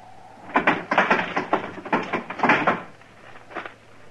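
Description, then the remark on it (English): A heavy wooden barn door is dragged open in a series of loud, uneven rattling scrapes and thumps over about three seconds, with a faint low hum underneath and no voices. “I'll give you just 3 seconds to open this door, and I'll move.”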